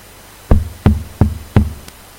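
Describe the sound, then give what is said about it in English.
Four firm, hollow knocks on a door in a steady, evenly spaced rhythm, fairly loud, with a faint click just after and no voices. “And then I knocked the day after, tomorrow, the next day, and I remember he was there at the door, he opened the door”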